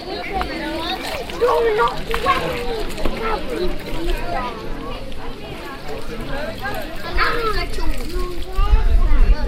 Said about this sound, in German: Auf dem großen Schulgelände wartet die muntere Kinderschar auf das Mittagessen, das sie in der Schule erhält, und drängt sich um den neu erstellten Wasserhahn.